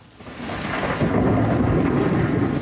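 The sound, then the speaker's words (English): A rumbling roll of thunder builds and sustains over steady, heavy rainfall during a thunderstorm soaking New York City, loud, with no voices present. “I'm Monica Ricks in New York, where thunderstorms are soaking the city.”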